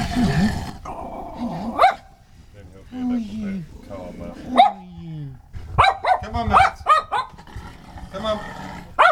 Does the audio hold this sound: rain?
no